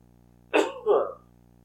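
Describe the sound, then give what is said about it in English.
Two quick coughs in succession, the first sharper and the second a bit longer, loud with no talking around them, a lingering cough after a recent case of COVID. “You'll have to forgive my coughing.”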